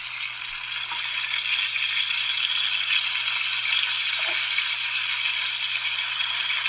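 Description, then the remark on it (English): Food sizzles steadily in a frying pan, a constant bright hiss with a few faint pops and crackles, fairly loud, with no one talking. “See you at the frying pan.”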